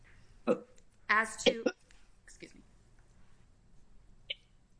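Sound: cough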